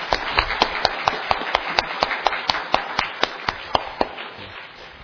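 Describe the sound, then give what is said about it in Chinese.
A church audience claps hands to thank the choir after its singing, in a steady, even rhythm, sharp beats landing about four times a second over a dense wash of scattered applause, fading slightly toward the end. “好不好，我们今天特别拍拍手，谢谢他们， 特别拍拍拍手。”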